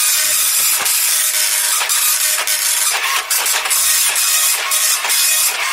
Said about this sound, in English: Here we go. Very slow printer, apologies for that. There we go. Oh, there we go. Right, okay, so it's off the printer. It's a dot matrix printer, it takes ages.